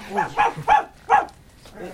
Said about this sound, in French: Eh bien, Milou, que se passe-t-il? Il a eu peur de quelque chose, semble-t-il. Je comprends! C'est notre ami Raskar Kapak qui a effrayé votre chien.